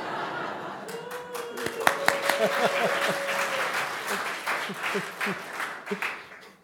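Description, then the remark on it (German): An audience at a church service breaks into steady, sustained applause for the drummer and his mother, many hands clapping together with a few sharp claps standing out, while some voices and soft laughter mix in underneath. “Dieser Beifall gilt aber auch der Mutter und den anderen.”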